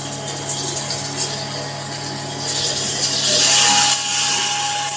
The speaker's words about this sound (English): I think this was a power shower that we're talking about. It's a hell of a device. Here, listen to this.